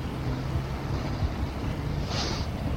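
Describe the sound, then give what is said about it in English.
An orange motor launch that has left a ship drones steadily as it runs along the shore toward the quayside to land, its low engine hum running under gusty wind noise and lapping water, with no one speaking. “I've just seen that the orange launch at the side of the Nenel has left the boat. It's just run along the shore to find out where it's coming to land.”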